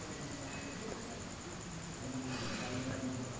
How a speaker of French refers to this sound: Ah oui, il y a des grillons aussi. Ah, c'est rigolo. Ah, pourtant, ils devaient être là avant, mais je n'avais pas entendu. Des grillons.